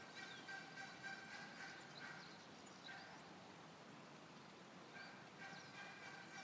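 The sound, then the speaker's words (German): A dense outdoor chorus of many birds chirping and singing at once at a hot spring on a volcanic island, their overlapping high calls forming a steady, busy wash of sound with no talking. “Und ihr hört es sicherlich auch, ganz viele Vögel gibt es hier.”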